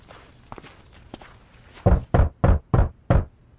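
Five firm knocks on a wooden door in a steady rhythm, loud, preceded by a few faint footsteps; someone knocking on the door of Saul's room.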